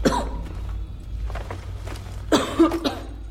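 A woman coughs and splutters from dust stirred up by feet in a dark mine shaft: a harsh burst at the start, a pause, then a rougher cluster of coughs, over a low steady rumble.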